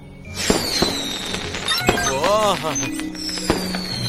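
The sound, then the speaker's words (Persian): Blue, red and green fireworks go off: descending high whistles of rising rockets and four or five sharp, loud bangs spread unevenly over a few seconds, with a warbling tone in the middle. “دوست دارم بدونم چرا آتیش بازی ها رنگای مختلفی هستن.”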